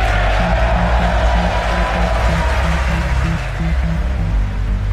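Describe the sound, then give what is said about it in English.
A large crowd at the State of the Union address applauds and cheers loudly and steadily for President Donald Trump for the full five seconds, a dense, continuous roar of clapping with low voices shouting underneath. “That's President Donald Trump to a huge round of applause at the State of the Union address.”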